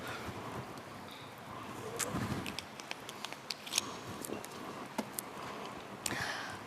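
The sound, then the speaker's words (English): Someone takes a quick sip of a drink: scattered soft clicks and taps, maybe a cup being handled, over a low hiss, with no talking. “So I have to take a short sip, sorry.”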